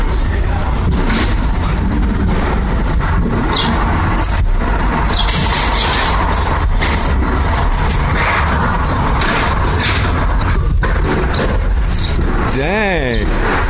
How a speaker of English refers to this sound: Like, all day, every day, I have to put up with noise coming from the house next door because it sounds like they're demolishing the house. Here's some noise from the Property Brothers demolishing the house.